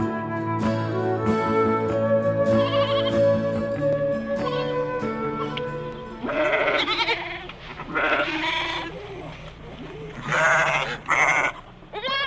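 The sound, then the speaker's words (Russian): After a stretch of steady, tonal music, several sheep bleat in quick succession, loud, their wavering cries overlapping one another with no talking. “О нет, это не сельскохозяйственная передача. Но сегодня разговор будет идти об овцах.”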